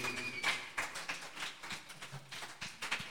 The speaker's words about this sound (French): Voilà, je pense que … mérite encore des applaudissements.